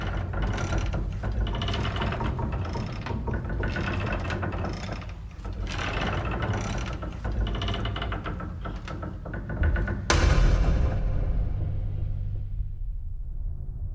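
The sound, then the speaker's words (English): In a folk horror style music track, rhythmic creaking and clanking woodshed noises, like old wooden machinery, repeat over a low rumbling musical drone, then a heavy booming hit lands near the end and slowly fades out. No one speaks. “The creaking, clanking woodshed noises are kind of equal parts Evil Dead, maybe Evil Dead 2”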